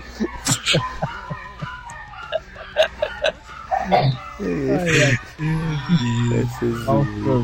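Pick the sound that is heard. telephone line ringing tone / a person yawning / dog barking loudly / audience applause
dog barking loudly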